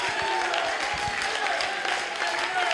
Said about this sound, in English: Oh, give the Lord a hand clap of praise right now.